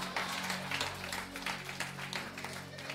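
An audience claps their hands in a dense, steady burst of applause that stays loud for the whole stretch, over a low continuous hum.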